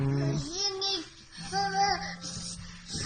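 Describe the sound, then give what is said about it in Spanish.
Young children babble and coo in short, rising vocal bursts while playing during an attempted nap, moderately loud, with a soft steady hum running underneath. “Lo que son niños jugando.”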